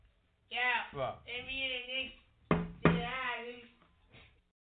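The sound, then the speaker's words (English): Two sharp, loud knocks on a door land close together, surrounded by a voice making drawn-out vocal sounds before and after. “Yo, that ain't the fucking knock, man.”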